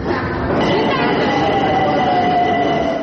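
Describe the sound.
A subway train roars steadily through a metro station, loud, with thin metallic squealing tones drifting over the dense rumble and faint voices mixed into the noise.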